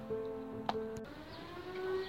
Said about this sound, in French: Au loin, on peut entendre l'alarme des pompiers qui partent maîtriser un incendie.